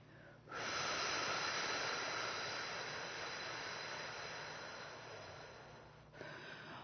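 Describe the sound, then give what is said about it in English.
One long, slow breath in a guided breathing exercise, a steady airy rush lasting several seconds and gradually easing, followed by the start of another soft breath. No one speaks. “We're going to do some breathing with you.”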